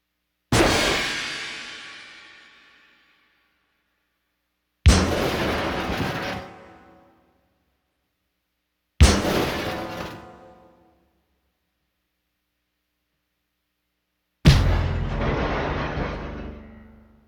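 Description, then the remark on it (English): Four separate brittle glass and percussion stinger hits, each a loud sharp strike that rings out and fades over a couple of seconds, with silence between them; the final hit is denser and sustains longer. “Stingers number three, brittle glass and percussion effects.”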